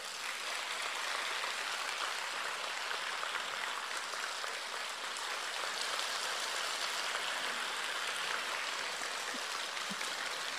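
Steady, sustained applause from an audience fills the whole stretch, a dense crackling wash of many hands clapping at an even level with no voices over it.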